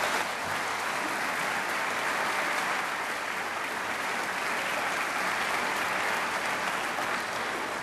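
An audience at a GE gathering claps steadily, a dense, even wash of many hands applauding at a constant loudness for several seconds, with no voices standing out.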